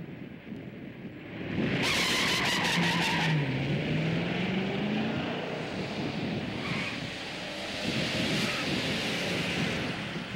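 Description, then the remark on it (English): A car engine revs hard to about 3,000 RPM on a launch run as the tires break loose and spin, a harsh hiss of tire noise layered over a rising and dipping engine whine, continuing loudly for several seconds with no talking. “Figured I need more RPM, I took it up to 3,000 RPM and I just broke the tires.”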